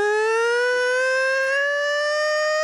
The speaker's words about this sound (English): Listen to that. It's the old Islanders' goal horn. So it's either a goal or a three-alarm fire.